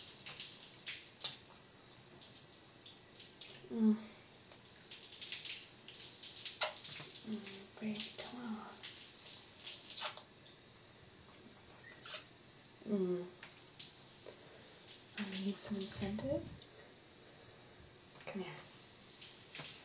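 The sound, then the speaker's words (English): A new shower (not a tub) runs steadily, a continuous hiss of spraying water throughout, with brief murmured vocal sounds surfacing over it now and then. “Look, we're in a new shower.”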